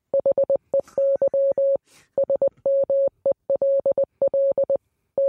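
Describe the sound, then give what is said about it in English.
A rapid run of electronic beeps at one steady pitch, mixing short blips and longer tones in clustered groups with brief pauses, a Morse code message. Loud, with no voices. “You think this is just random beeps?”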